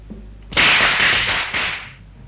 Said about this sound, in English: Firecrackers? They're banned in Hong Kong. Must be some Chinese here.